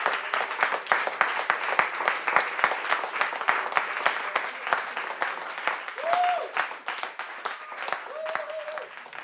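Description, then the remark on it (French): A group applauds itself as a closing ritual, clapping steadily for about nine seconds, a dense patter of many hands clapping at once, with a couple of brief whoops or cheers rising above it near the end. “saturé et mort, peut-être que le rituel de clôture, ça pourrait être ça, envoyer une salve d'applaudissements à nous tous pour tout ce qu'on a déjà fait.”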